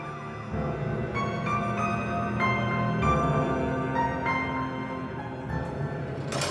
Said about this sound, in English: Red and blue flashed slivers across her face. Then he heard it. The whir of police sirens.